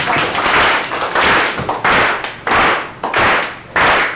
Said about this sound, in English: So let's clap. Give me a beat.